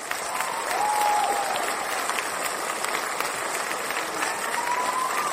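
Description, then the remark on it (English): A crowd applauds steadily and densely for several seconds, with a few high whooping yells rising above the clapping near the start and again at the end. “Oh my gosh, everybody, let's do a round of applause for this incredible strategy.”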